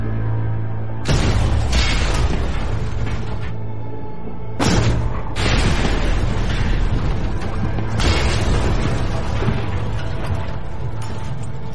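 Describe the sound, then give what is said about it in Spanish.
Three heavy, muffled booms rumble in succession, each bursting with a broad roar that slowly fades, like deep underwater detonations: three depth charges from a Japanese destroyer descending on the USS Growler, the nearest exploding only 45 metres away, over a steady low hum with no talking. “Mientras el teniente comandante Howard Gilmore intenta esquivar el sonar del destructor, otras tres cargas de profundidad descienden sobre el USS Growler.”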